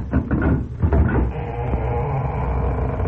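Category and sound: household object, door opening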